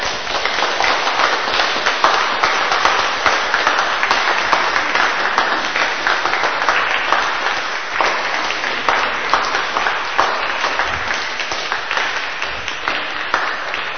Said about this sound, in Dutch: Nou, dan verzoek ik de deelnemers eerst even naar voren te komen. En dan hebben ze denk ik wel een welverdiend applaus verdiend. Want jullie hebben echt heel mooi en goed gespeeld.